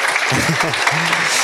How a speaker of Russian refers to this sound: Аплодисменты, да?